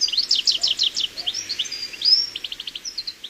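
Song thrush and great tits calling on a foggy day among cultivation boxes full of plants: quick runs of bright, high chirps and a few thin whistles, repeated in rhythmic bursts, over a quiet, misty-sounding background with no talking.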